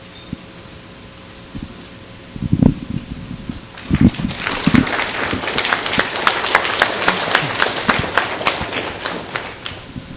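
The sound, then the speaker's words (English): An audience at Baylog breaks into applause after a few scattered early thumps, building into a dense, steady patter of many hands clapping that continues strongly to the end. “I wasn't expecting the clap.”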